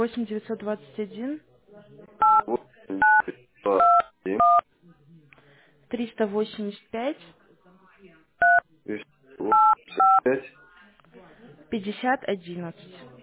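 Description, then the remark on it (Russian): Short electronic keypad beeps, about eight telephone dialing tones in small irregular bursts, clear, between stretches of a person talking, as someone dials on a phone keypad. “Или так, набор сделаем. Сейчас, подождите секунду. Так, клавиатура.”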